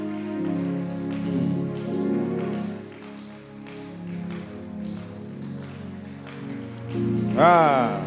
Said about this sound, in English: Oh, keep on clapping. Keep on clapping. Give glory to God. Keep on clapping.